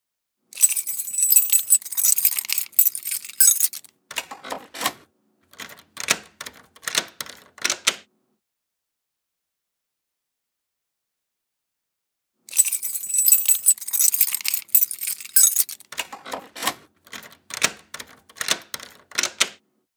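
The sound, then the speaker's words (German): A bunch of keys jangles, followed by sharp metallic clicks and scrapes of a key turning in a door lock to unlock the door; the whole sequence plays twice with a pause between, no voices. “Das waren ein Schlüsselbund und ein Schlüssel, mit dem eine Türe aufgesperrt wird.”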